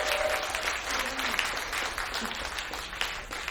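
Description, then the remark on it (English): A crowd applauds steadily for a few seconds, a dense, sustained wash of clapping hands that stays fairly loud throughout, with faint voices and a brief whistle-like tone in the mix. “Give a round of applause for them.”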